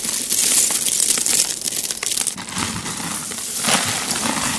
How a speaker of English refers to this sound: That is not the sound of ocean waves. It's hundreds of buttons being scooped up